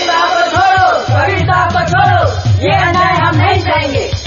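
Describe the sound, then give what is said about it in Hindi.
A crowd of thousands standing outside a royal court in Kashi shouts and bellows all at once, many overlapping raised voices forming a loud, continuous, agitated roar with no single speaker standing out; the crowd is hailing Sant Kabir. “हुजूर, दरबार के बाहर हजारों की भीड़ खड़ी है, ऐसा लगता है रियाया उग्र हो उठी है, कहीं बगावत न करते।”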